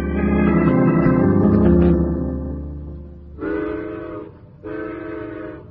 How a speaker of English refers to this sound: The coal train just went by.